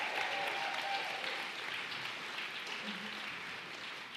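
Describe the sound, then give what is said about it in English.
An audience at a gathering for justice claps steadily when asked to give out some claps, a dense, sustained patter of many hands holding at a fairly even loudness for the full four seconds with no voices standing out. “Y'all give out some claps.”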